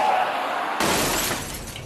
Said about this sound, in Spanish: Sube su coche y a toda velocidad choca contra el muro de contención del periférico.